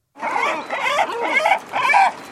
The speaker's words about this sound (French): Le goéland.